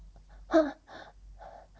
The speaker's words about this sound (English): My body straightens, and I gasp for air.